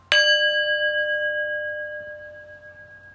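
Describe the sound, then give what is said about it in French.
A single gong is struck once to signal three deep breaths during a guided relaxation, a sharp metallic hit that blooms into a clear, sustained ring, wavering gently as it slowly fades over a few seconds with nothing else around it. “Au son du gong, je vais prendre trois grandes respirations.”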